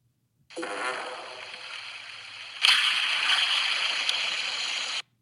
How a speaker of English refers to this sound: So you're going to hear a fart and then resist laughing and listen in for a ghost replying to the fart.